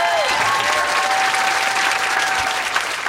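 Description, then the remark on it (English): An audience at a Politics and Prose bookstore event applauds author Jenny Lawson steadily, a dense, loud wash of clapping hands that holds at an even level throughout, with no one speaking over it. “Let's give another round of applause for Jenny Lawson.”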